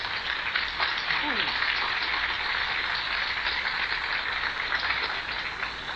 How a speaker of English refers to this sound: How about a big round of applause for …?